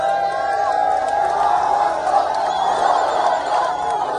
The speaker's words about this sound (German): Palästinenserinnen und Palästinenser springen durch die Straßen, jubeln, singen. Da ist Erleichterung, Hoffnung, die Waffen könnten endlich ruhen.